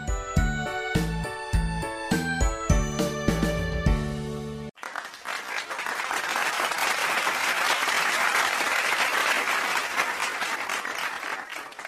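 A bright, tonal musical passage with rhythmic chiming notes ends abruptly, then an audience bursts into loud, sustained applause after the child's performance, dense steady clapping that holds for several seconds.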